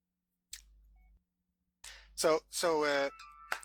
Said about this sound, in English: Sorry, it's my phone.